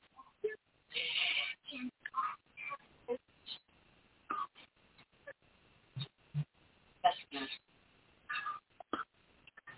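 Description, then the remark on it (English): A cat meows over and over in short, uneven bursts, sounding muffled and somewhat thin, with brief pauses and small scattered noises between the cries. “See, the cat knows.”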